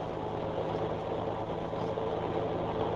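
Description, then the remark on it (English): A rental car's engine runs steadily, a low droning hum with a constant rumble and no change in pace for the whole three seconds, with no voices, as it is driven across the intersection of 13th and Pine against the light. “The first time I drove across the intersection of 13th and Pine, against the light...”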